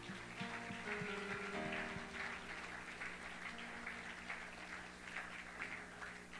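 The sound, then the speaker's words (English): An audience claps steadily for people who have read the Bible all the way through this year, a dense crackle of many hands that holds at an even level for several seconds, with a low sustained tone hanging faintly underneath. “Let's clap our hands to them.”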